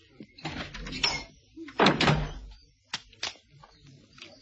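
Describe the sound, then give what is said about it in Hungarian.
A door creaks and rattles open, then bangs shut with a loud thud, followed by a couple of sharper knocks as the latch settles. “Ó, csupa kinyíló becsapódó. Kilincs.”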